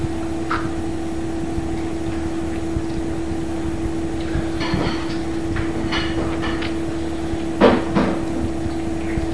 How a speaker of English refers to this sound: Trash truck. The trash truck.